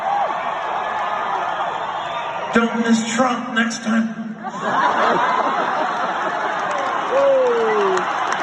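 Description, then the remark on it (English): A large concert crowd at a band's show cheers and applauds in a dense, continuous roar of clapping and shouting that swells midway and stays loud through the end, with scattered laughter mixed in. “And the crowd cheers.”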